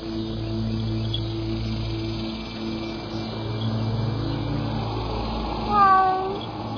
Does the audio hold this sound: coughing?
no